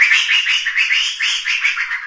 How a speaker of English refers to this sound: So here, for example, is what an upset monkey sounds like.